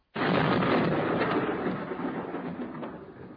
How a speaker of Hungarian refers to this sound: Tévedés, kedves ellenségeink! Nem a menny dörgött, hanem a mi tarackütegeink országotok határán.